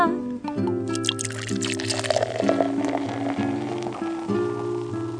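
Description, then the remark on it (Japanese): Beer and a highball are poured into glasses in a snack bar, a gurgling, splashing stream, played over steady background music with sustained tones throughout. “はい、できました。どうぞ。ビールです。”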